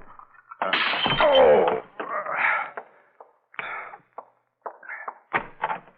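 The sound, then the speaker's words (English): A door is opened with a loud, scraping creak, followed by several shorter knocks and clunks of wood and latch that taper off in separate bursts, with no talking. “Please, open the door, let me in.”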